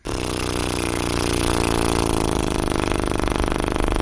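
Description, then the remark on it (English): A car motor kicks in abruptly and keeps running as a loud, steady, buzzing rumble for about four seconds, with no one talking over it. “Was that the sound of the motor of the car?”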